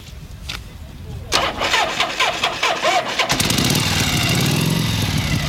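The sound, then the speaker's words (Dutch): A Harley motorcycle engine cranks and sputters as it struggles to start on a very cold day, its oil thick and the engine not yet warmed up, then catches into a loud, steady idle rumble, with people talking over it. “De motor is nog niet echt goed warm geweest. Dus ja, vandaar dat hij nu niet 1, 2, 3 wil starten natuurlijk.”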